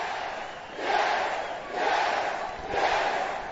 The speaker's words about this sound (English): Listen to that crowd. Yep, 10,000 people pointing, going, yes. Yes. Yes.